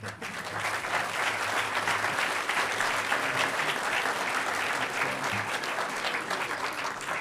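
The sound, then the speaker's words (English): An audience at the 9th Hackers on Planet Earth (HOPE) conference applauds steadily for about seven seconds, a dense, even wash of many hands clapping at a fairly loud, constant level with no talking over it. “And huge round of applause.”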